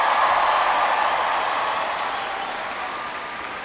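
A crowd applauds steadily, a dense wash of many hands clapping at once that holds fairly loud throughout and only slightly eases toward the end, with no voices standing out.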